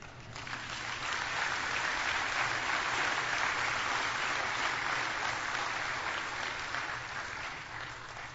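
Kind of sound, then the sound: crowd, audience clapping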